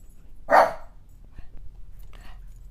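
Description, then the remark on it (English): A small, mop-like male dog lets out one sharp, high bark, followed moments later by a much fainter, softer yip against a quiet background. “He's just like the littlest mop of a dog. He thinks he's so tough.”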